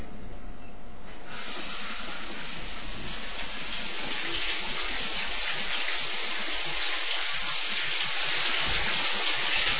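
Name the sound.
shower water running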